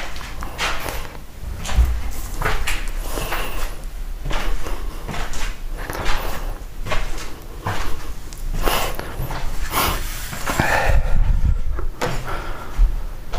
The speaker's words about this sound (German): So. Tür auf, genau. So, die Türen schön weit aufmachen, damit die Katzen noch hin und her laufen können. Das ist mal wichtig. Türen müssen alle auf sein.